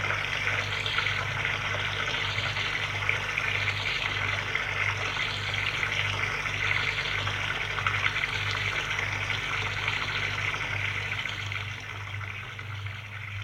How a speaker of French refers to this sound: Une fois que tout est prêt, la mère et la fille vont dans la chambre pour se préparer pour la soirée. Prendre une douche.